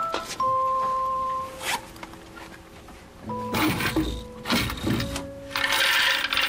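Coins rattle and clatter in several bursts as they are collected from a small coin-operated game machine, with steady electronic tones humming between the clinks, fairly loud.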